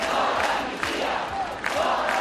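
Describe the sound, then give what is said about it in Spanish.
A large protest crowd of hundreds of thousands in Barcelona, Spain, shouts against a proposed amnesty law in a dense, continuous roar, with individual voices rising out of the mass in repeated bursts of chanting of "no a la amnistía" that never let up. “Gritos de no a la amnistía.”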